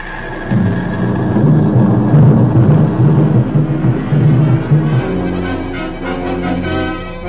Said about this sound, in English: Japanese planes are bombing Pearl Harbor. What? Listen. You can hear the bombs exploding.